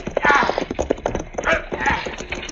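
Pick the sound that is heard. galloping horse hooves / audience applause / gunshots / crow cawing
galloping horse hooves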